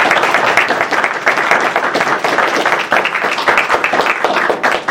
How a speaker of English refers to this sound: I just think that we ought to give him a round of applause and express our appreciation.